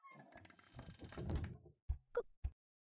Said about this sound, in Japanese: これもカードキーで開くんだろ。開いたな。早速入ってみるぞ。